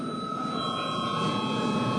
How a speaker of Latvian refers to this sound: Kolēģi, mēs tuvojamies, tātad esam pietuvojušies pārtraukumam un lūdzu zvanu.